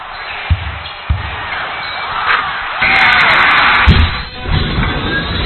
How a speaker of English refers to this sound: The squeak of the sneakers, the swish of the net, bounce of the ball, and amped up crowd can only mean one thing. It's time for high school basketball